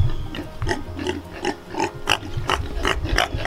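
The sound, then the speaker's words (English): Pigs cough and wheeze, a rapid series of short, harsh bursts roughly every half second over a low, rumbling background, with no talking. “So yesterday we noticed that our pigs were starting to develop a cough. Some of them had a short wheeze.”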